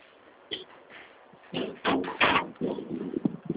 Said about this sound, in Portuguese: Bate na nossa porta, vê se seu pai está dormindo.